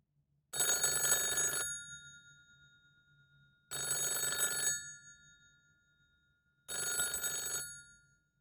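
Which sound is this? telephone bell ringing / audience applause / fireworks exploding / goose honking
telephone bell ringing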